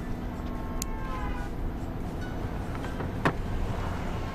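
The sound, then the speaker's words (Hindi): Steady low rumble of a car driving, engine and road noise droning evenly throughout, with a couple of brief sharp clicks and no one speaking. “गाड़ी चलाते वक्त फोन पर बात मत किया करो।”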